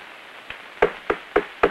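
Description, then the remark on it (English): Killer Pepe knocks on a shop door whose sign reads Importers and Exporters: a faint tap, then four firm, evenly spaced wooden knocks in a steady rhythm, with no voices. “Later, a sign on a shop door reads, Importers and Exporters. Killer Pepe knocks.”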